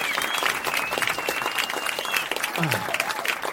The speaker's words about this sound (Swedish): Ja, kom igen. Det är vi med. Liten applåd bara eftersom... Fan, fan vad schysst.